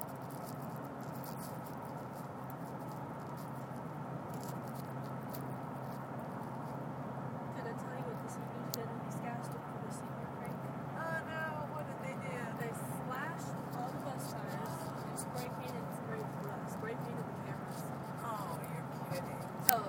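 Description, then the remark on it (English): A steady, continuous rumble of road and engine noise from the back of a moving truck, holding an even level throughout, with faint muffled voices now and then beneath it. “It's not bad in the back of this truck.”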